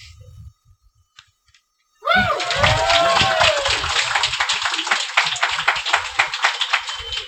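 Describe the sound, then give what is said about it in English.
After a couple of quiet seconds, a game-show audience, prompted by an applause sign, bursts into loud, dense applause with some cheering voices, the clapping holding steady and then slightly thinning toward the end. “Applaud for the applause sign.”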